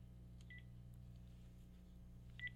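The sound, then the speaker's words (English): Two short, high electronic telephone tones sound about two seconds apart over a steady low hum from an open studio call-in phone line that was not hung up, with no one speaking. “Now, do we have a dial tone here?”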